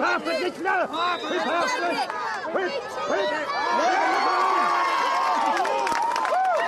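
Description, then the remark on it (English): A large crowd of the Ladies' Bridge and Ballymacoda community shouts and cheers together at Father O'Neill's county final at Castle Road in Mahon, many voices overlapping in excited yells that swell into a sustained, loud roar of celebration toward the end. “This time, her eldest son is here shouting with the rest of the Ladies' Bridge and Ballymacoda community.”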